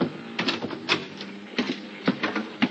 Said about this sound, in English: At 10 o'clock that night, there was a tap on my cabin door.